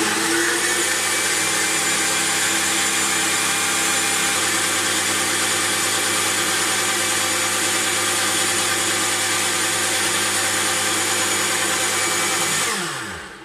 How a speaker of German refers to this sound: von da schmeißen wir es dann in den Mixer. Richtig, Kathi. Und da mixen wir es dann ordentlich durch